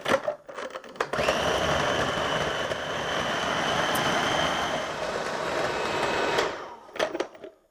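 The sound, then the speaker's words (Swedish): A kitchen blender whirs steadily for about five seconds mixing a spread, with a high motor whine, starting and stopping abruptly, with a few clatters and knocks before and after. “Så mixar vi ihop det här.”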